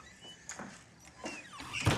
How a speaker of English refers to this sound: Scott leads her into the passenger seat and shuts the door.